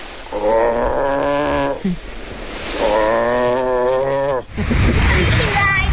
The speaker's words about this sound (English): And this is who Anthony Fitzgerald heard roaring last night. An Arctic walrus believed to have come across the ocean all the way from Greenland, landing on Valencia Island, hungry and exhausted.